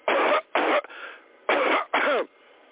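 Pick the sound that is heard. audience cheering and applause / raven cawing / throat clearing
throat clearing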